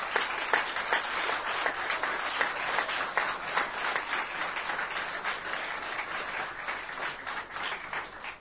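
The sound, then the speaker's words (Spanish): An audience in Uruguay applauds steadily for the presence of Panamanian boxer Roberto "Mano de Piedra" Durán: a dense, crackling wash of many hands clapping at once, holding at an even, moderate loudness throughout, with no voices standing out. “Esta imagen que ustedes ven en estos momentos, yo la iniciaría con un fortísimo aplauso porque es muy difícil.”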